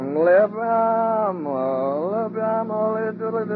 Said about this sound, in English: We got the goats. We got three goats, in fact.